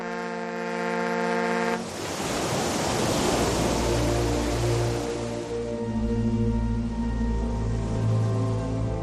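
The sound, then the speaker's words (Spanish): A sustained horn-like tone gives way to a broad, steady rush of ocean waves swelling and washing on the open sea at night, with a low droning hum underneath and no voices. “Sitúate en alta mar, más o menos a esta hora de la madrugada.”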